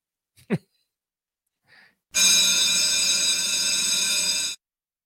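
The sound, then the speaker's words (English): A short breath, then a loud school bell rings steadily for about two and a half seconds, a bright continuous metallic clatter that cuts off abruptly. “that's the bell every day on Busted Pencils. That bell rings”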